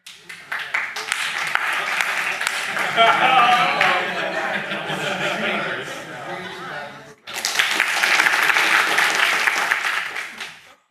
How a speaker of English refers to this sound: And when I raise both my hands, then we just clap. So the speaker has no choice but to end his presentation, okay?